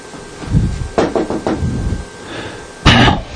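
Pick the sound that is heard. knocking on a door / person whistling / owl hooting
knocking on a door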